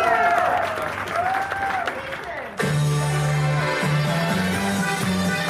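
Steady audience applause fills the whole clip as a dense clapping wash, mixed with voices and, in the second half, loud sustained low tones that could be singing or music.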